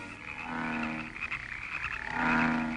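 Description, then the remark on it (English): A dense chorus of frogs croaking together, a steady overlapping mass of calls that swells louder toward the end, with no talking. “And if you refuse to let them go, behold, I will smite all thy borders with frogs.”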